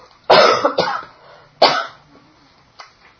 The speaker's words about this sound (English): Oh, well. This can go on for 2 months, you know? These kind of dry coughs.